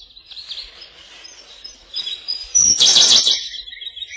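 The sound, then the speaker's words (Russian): Siberian blue robin song from a blue bird on a branch in the Ussuri taiga: thin, high chirps and twittering notes running continuously, swelling into a louder, buzzier trilled phrase near the end, heard alone without any talking. “На ветке красивая синяя птичка. Синий соловей.”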